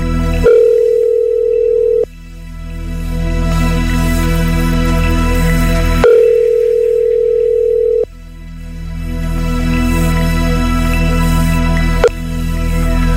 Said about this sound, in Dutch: Telefoontje plegen.